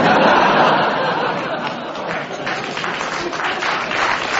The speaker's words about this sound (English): Why are you clapping?